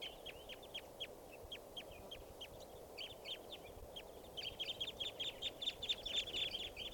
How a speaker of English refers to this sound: See a pair. Good numbers of birds. Sound all like type 2 stuff. Here's another bird.